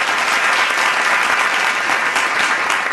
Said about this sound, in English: Please, please, continue to applaud. Well deserved, well deserved.